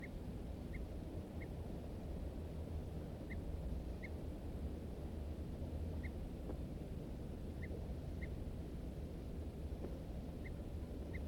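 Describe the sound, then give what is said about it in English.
Short, thin alarm calls from two birds, a wild male and a second bird, repeat irregularly, some notes close together, standing out faintly above a steady low rumble of wind or traffic. “Both birds now giving alarms.”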